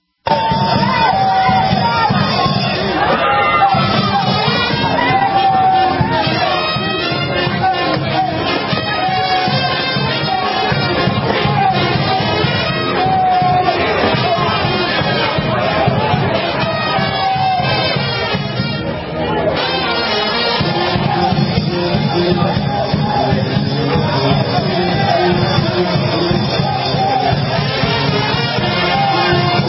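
A large crowd shouts and cheers loudly and continuously while a big, giant metal statue is pulled down, with overlapping yells and babble and a brief dip in the noise partway through.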